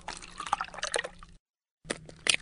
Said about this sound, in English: They're the sounds of pouring milk and cracking eggs.